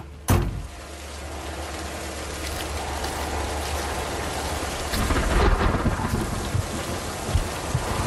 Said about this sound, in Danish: Hun åbner forsigtigt døren og træder ud i den silende regn.